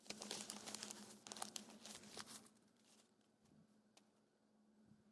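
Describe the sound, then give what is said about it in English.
A preacher in a church crumples a piece of paper in his hand and drops it, a flurry of dry crinkling bursts for a couple of seconds, then fading to quiet with a few faint ticks and rustles. No one speaks. “A member will look at that piece of paper right there.”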